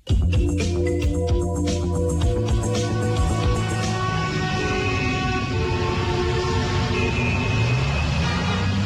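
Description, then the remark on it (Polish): A steady car engine drones on from inside a car driving someone home in the evening, a continuous rumbling hum with layered tones and faint road noise, no voices. “Odwożąc mnie wieczorem swoim samochodem”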